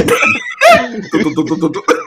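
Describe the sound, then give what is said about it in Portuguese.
A couple of harsh coughing bursts up front, followed by rougher throaty vocal sounds that sputter on for the rest of the moment. “O cara só toma uma tosse bem aí, velho.”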